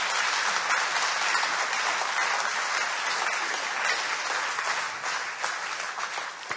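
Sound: audience applause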